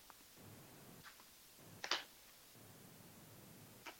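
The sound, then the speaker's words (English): Tarot cards being shuffled for a tarot reading: soft, quiet papery rustling with a few light ticks and one sharper flick near the middle, without any talking. “Let me shuffle a couple more here through.”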